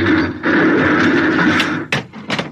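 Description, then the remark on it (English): A heavy metal bulkhead door slams shut amid a loud, sustained mechanical roar, followed by a couple of sharp bursts of clanging noise near the end. “Blast, bulkhead. Yeah, we're cut off from the bridge.”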